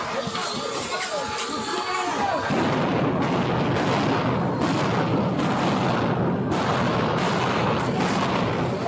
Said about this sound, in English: Those were flashbangs.